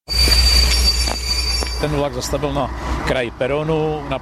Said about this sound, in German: Am Mittwoch herrschte rege Betriebsamkeit auf der nordböhmischen Bahnstrecke zwischen Lipčeves und Židovice. Vor allem ab dem Moment, als ein Triebwagen in den Bahnhof von Lipčevec einfährt.